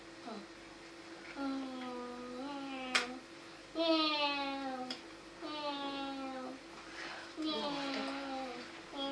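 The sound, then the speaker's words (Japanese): A cat meows repeatedly, about four long, drawn-out wavering cries in a row, moderately loud, with a faint steady background hum. “あら、猫さん泣いてる。”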